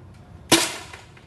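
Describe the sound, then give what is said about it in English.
A single sharp shot from a metal and carbon Walter rifle, fired at a target on a wall, cracks out loudly after a brief quiet, its bright burst fading quickly into a short, decaying tail. No one speaks. “I prop the butt of the gun in my armpit and focus on my target.”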